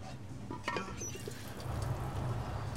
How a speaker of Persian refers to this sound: خیلی خوب، بعد از شیشه 3 لیتری برای پر کردن شیشه 5 لیتری استفاده کنیم تا دقیقاً 4 لیتر بشه. خیلی خوب، بیان شیشه 5 لیتری رو پر کنیم.